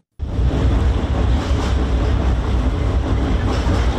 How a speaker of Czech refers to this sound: Huk tramvaja preko mosta na Savi, jednog od simbola glavnog grada, prema najavama vlasti, broji svoje posljednje mjesece.